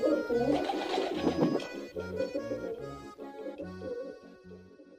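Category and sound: bird, pigeons cooing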